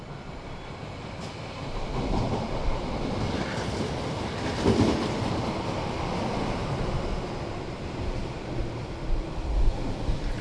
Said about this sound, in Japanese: ただいま到着の電車は急行梅田行きでございます。停車駅は十三でございます。